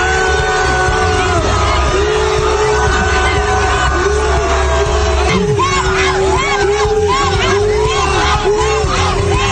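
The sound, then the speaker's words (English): A large crowd at a Somali music festival in Minnesota boos loudly and continuously as a congresswoman walks on stage, a dense roar of many voices, with scattered yells and whoops rising more sharply over the din in the second half. “When Ilhan Omar walks on stage and the crowd boos her into oblivion.”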